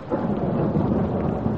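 A steady, loud roar of a storm, with rumbling thunder and heavy rain blending into a continuous wash of noise, no voices.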